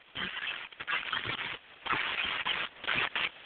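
Crunchy, crackling rustles come in irregular bursts, like feet stomping through dry leaves, with brief pauses between the louder crunches and no voices.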